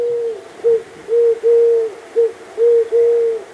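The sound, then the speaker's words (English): A Eurasian collared dove coos in repeated three-note phrases: a short coo, then two longer, low, hollow notes. The rhythmic calls are steady and fairly loud over faint background hiss. “There, in 1974, a bird called the Eurasian collared dove escaped from captivity and began to breed in the wild.”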